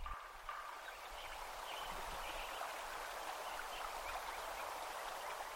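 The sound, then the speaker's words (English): A steady, gentle rush of flowing water fills a sparse meadow soundscape at Lincoln Meadow, Yuba Pass, California, one year after the forest was logged, with only faint scattered sounds and no prominent birdsong breaking through the even hiss. “Listen to Krause's recording 1 year after logging.”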